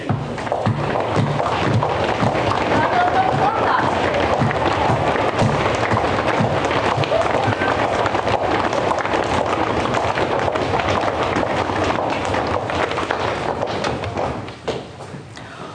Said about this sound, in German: Und die Kinder können mal alle aufstehen und die Erwachsenen können das da hinten auch im Sitzen mitmachen. Und zwar wollen wir mal feste stampfen, dass man hört, dass jetzt 5000 Menschen auf dem Weg sind.